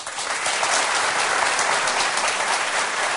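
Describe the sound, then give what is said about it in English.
An audience claps steadily to vote in a poll, a dense, sustained wash of applause at even loudness for a few seconds with no voices on top. “So if you think number one about the hen laying, giving birth to a live chick is the fiction, applaud.”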